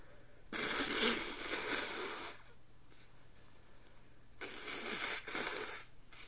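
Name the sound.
nose blowing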